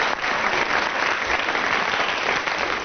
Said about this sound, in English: Right, round of applause for Graham Garden. Thank you.